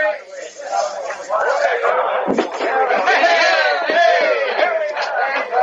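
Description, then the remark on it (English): A dense crowd on a dock shouts and clamors together as a ship's gangplank is lowered, many overlapping voices raised in a loud, continuous din with excited calls rising above the general hubbub throughout. “I don't want to lose you in that crowd on the dark.”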